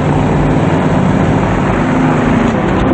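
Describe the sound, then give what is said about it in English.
A heavy truck with a custom paint job rumbles loudly and steadily, its deep droning hum holding throughout as the driver pulls away, with no voices present. “The driver nods, and shadows move across the truck's custom paint job as he pulls away.”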